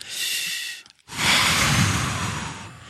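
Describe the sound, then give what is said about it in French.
A slow, deep relaxation breath drawn in, a brief pause, then a long, airy exhale, fairly loud, with no talking. “Détendez-vous, il est l'heure maintenant de penser à la respiration.”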